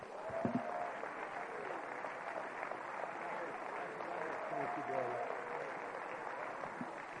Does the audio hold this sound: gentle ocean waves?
no